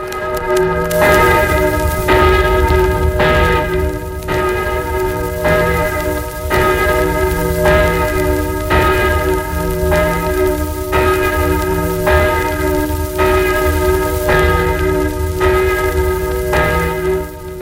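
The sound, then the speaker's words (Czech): Church bells in Plasy peal in a steady, overlapping rhythm, strikes landing roughly every second or so with rich sustained ringing, loud and full over a faint hissy background, an archival radio recording made on magnetic tape. “Zvony plasy.”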